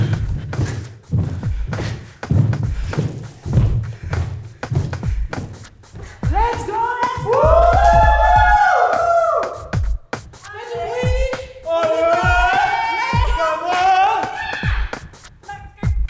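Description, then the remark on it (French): Children in a school playground hop together while holding hands, feet landing in a quick, steady run of thumps, then a cluster of high, excited young voices rises and overlaps over the continuing footfalls. “Des enfants dans la cour de récréation sautillent en se tenant par la main.”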